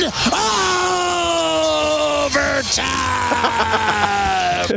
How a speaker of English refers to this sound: Yell as loud as you want.